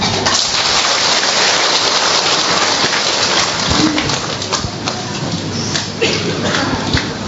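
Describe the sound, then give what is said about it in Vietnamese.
Heavy rain pours steadily onto a roof during a church service, a dense, hissing wash of drops drumming on a hard surface, loud and continuous throughout with scattered sharper patters. “Thưa anh chị em, đăng lý thì chúng tôi làm công việc này đầu lễ, nhưng mà vì lý do trời mưa, để chúng tôi xin phép được gửi đến anh chị em những cái rổ”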